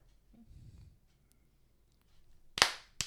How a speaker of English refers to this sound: You do one more clap. Okay, I think we're good.